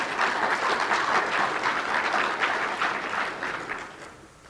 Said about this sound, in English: That was a good chance right there for an applause. What happened to you all? Man.